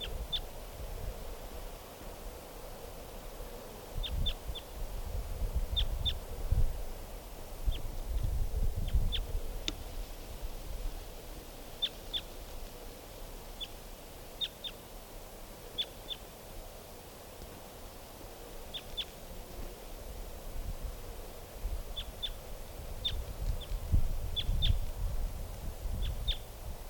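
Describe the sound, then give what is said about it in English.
A wild male bird calls in short, high chirps, often in quick pairs, repeating every second or two over a steady low rumble of wind-like noise with no voices. “I think it's a male. Wild bird.”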